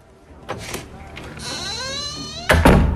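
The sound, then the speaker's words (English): The door of a shabby room creaks slowly on its hinges for about a second, then shuts with a loud, solid thud, preceded by a couple of soft knocks of handling. “He looks around the room before closing the door.”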